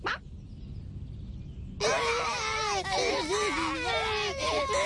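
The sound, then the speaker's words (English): After a low, murky background, several children suddenly burst into loud, wavering wails that overlap one another and continue steadily until the end. “Hey, why are you crying?”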